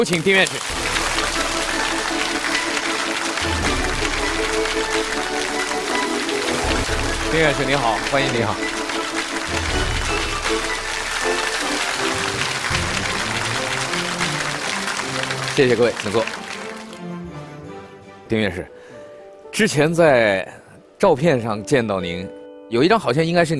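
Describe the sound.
Sustained applause from a large audience welcoming a guest speaker, an academician of the Chinese Academy of Sciences, fills the first sixteen seconds over upbeat music with a steady bass pulse, then fades as a voice begins speaking.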